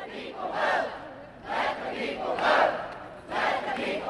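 protesters chanting

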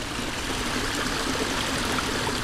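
flowing river water

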